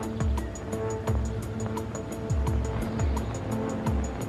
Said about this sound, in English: On the third day, a tan-coloured Ford V8 turned into the road. It looks like the car, fellas.